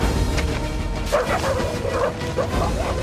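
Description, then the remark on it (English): Several pursuing dogs with their handlers in a forest bark and yip in short, overlapping bursts, set against a steady low rumble of background noise. “Another glance in the direction of the dogs.”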